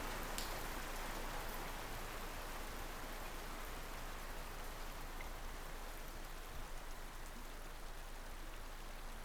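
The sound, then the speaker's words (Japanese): Steady light rain from a sunshower patters down in a continuous, even hiss with soft scattered droplet taps, unbroken, with no voices present. “天気雨だからすぐ止むと思いますけど”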